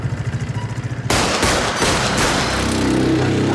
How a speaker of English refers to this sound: The teen is killed in the drive-by shooting.